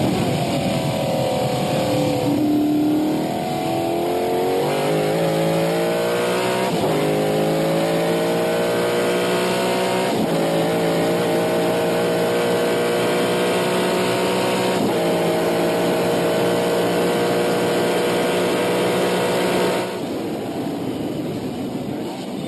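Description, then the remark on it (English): A loud, throaty small block Chevy V8 engine roars in a McLaren M6 Can-Am race car, the Predator Performance prepared ex-Oscar Kowalewski car driven by Jim Pace at Road America, revving up through several gear changes with rising harmonic pitch, sustained for about twenty seconds before easing slightly at the end. “And Ben, we even have a sound effect of a very healthy small block Chevy and a McLaren Can-Am car.”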